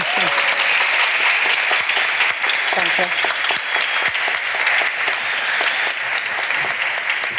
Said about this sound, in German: Deshalb bitte nochmal Applaus für